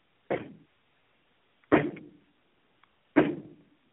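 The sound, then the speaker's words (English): Three loud, heavy knocks on a door, slowly and evenly spaced, each with a short booming echo trailing off. No voices, only quiet between the blows. “Ah, we have knocked at the portal to a dark place, wherein thy weary body must rest for a time, and wherein its vigor shall be restored.”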